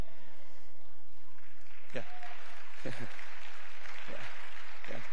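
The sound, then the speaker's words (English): An audience applauds in a steady, hissing wash of clapping that runs the whole time, with a few sharper bursts of crowd noise rising out of it. “Your applause took a while.”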